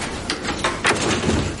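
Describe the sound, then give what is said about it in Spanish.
A back door opens and shuts in quick succession as someone leaves through it, a couple of short scraping, rattling bursts followed by a muffled clunk, moderately loud, with no one speaking. “Sale por la puerta de atrás.”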